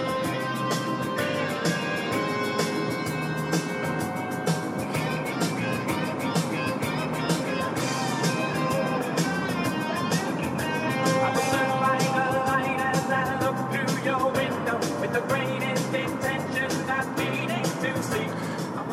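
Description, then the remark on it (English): A pop song with singing plays steadily at moderate volume, muffled by the constant low rumble and road noise of a moving car. “It's unfortunate you can't hear it very well because I'm driving in a car.”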